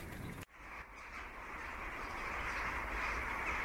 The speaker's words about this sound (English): It's sunset. It's getting dark. And there's the most amazing noise from all the birds coming into roost.